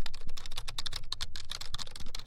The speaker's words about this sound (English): It's a computer keyboard, of course, happens to be one of the keyboards in our studios,